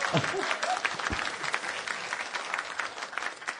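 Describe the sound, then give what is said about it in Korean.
An audience applauds, at a speaker's request, for someone who prepared four items, with steady, dense clapping that stays fairly loud for several seconds, with a few brief vocal sounds mixed in near the start. “네 가지를 준비해 주셨는데 박수 한번 주시죠.”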